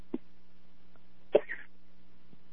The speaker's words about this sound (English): I'm going to have to call you back because I'm just having this awful problem with the cough now.